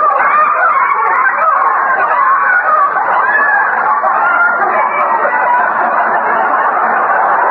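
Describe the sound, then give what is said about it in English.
A flock of the neighbor's chickens clucks and squawks steadily in a garden, a busy, continuous jumble of fairly loud hen chatter with no pauses and no voices. “The neighbor's chickens are in there again.”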